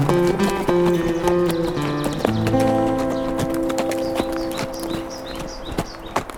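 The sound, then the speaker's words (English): Horse hooves clip-clop in a steady walking rhythm as a rider heads east into the rising sun, sharp knocks layered over sustained, droning musical tones that shift pitch partway through. “For now, he rode east, into the rising sun.”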